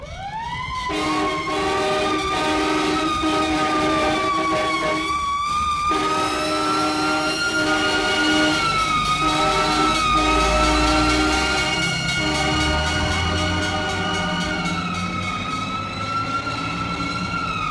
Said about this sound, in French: tout d'un coup, bien avant l'heure du sommeil, les sirènes de la police se déclenchent en hurlant à la mort.